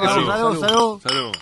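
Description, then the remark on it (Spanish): Glasses clink together a few times in a quick toast, mixed in with several overlapping voices talking and cheering. “Salud. Que se repita, que se.”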